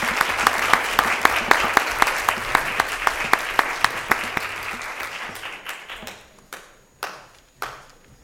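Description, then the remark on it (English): An audience at a board meeting applauds young people being recognized, with dense, steady clapping that thins out and fades, ending in a few scattered, isolated claps. “Again, let's have another round of applause for these young people here.”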